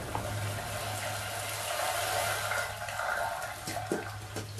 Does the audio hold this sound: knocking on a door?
no